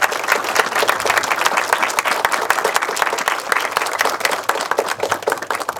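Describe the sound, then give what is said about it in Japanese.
Sustained applause from an audience welcoming a guest, dense and steady clapping filling the whole stretch at a fairly loud level, with no speech over it. “はい、皆さん拍手でお迎えください。”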